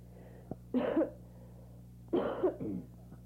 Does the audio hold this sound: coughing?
yes